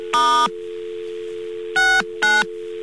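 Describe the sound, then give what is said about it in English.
Three loud touch-tone keypad beeps over a steady humming dial tone as 9 and then *69 are dialed on a telephone line, one longer press followed by two quick presses close together, with no talking. “We dial 9 first. And now we dial *69.”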